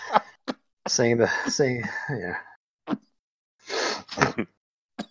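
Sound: sneeze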